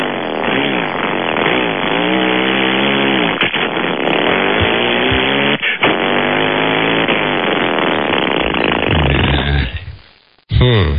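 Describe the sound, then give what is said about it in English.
A voice imitates a revving engine, buzzing and rising in pitch through several upshifts, then downshifting back down, loud, with a brief break near the end. “All right, let's hear the upshifting and the downshifting.”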